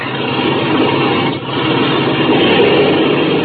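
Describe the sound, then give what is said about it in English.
An airplane engine with a front cockpit roars loudly and steadily as it is revved before takeoff, with a brief dip partway through before surging back to full power. No voices are heard. “Okay, clean out that engine while I climb into the front cockpit.”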